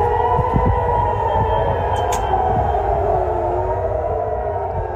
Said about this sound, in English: Air raid sirens ring out in Jerusalem as explosions light up the night sky. This is as Iran launched an unprecedented attack on Israel last night.